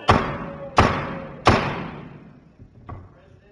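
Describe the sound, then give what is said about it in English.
A gavel bangs three times in quick, evenly spaced succession during a state Senate roll-call vote, each strike loud and sharp with a brief ringing decay, followed by a couple of fainter knocks. “Senator from Christian, do I even need to explain why I banged the gavel?”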